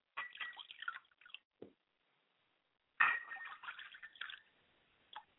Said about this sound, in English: So I'm going to pour libations to Akamare and Oladulamare, and I say Ashe.